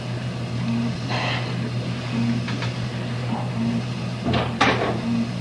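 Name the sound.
door opening or closing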